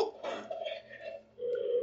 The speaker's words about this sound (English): The obligatory loud burp.